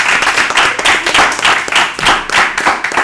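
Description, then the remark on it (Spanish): Loud, sustained applause from a group in a studio, dense rapid clapping with swelling surges throughout, energetic, with no voices standing out. “Un aplauso ahora, gigante también.”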